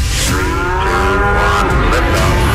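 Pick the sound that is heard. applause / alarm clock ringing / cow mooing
cow mooing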